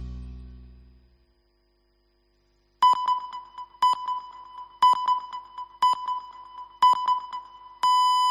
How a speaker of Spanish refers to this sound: Son las 9, las 8 en Canarias, el mejor fútbol del mundo, la Champions, en COPE, tiempo de juego, arrancó Múnich. Justamente cuando sonaban las señales horarias